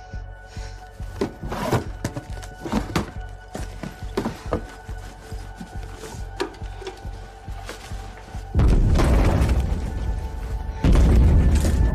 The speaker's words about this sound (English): Outside, the night lights up with explosions.